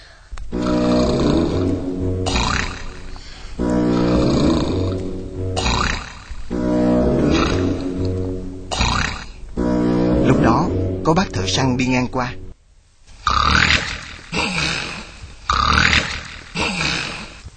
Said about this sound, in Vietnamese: Khi đã no bụng, sói lại nhảy lên giường ngủ thẳng giấc và ngáy lớn tiếng.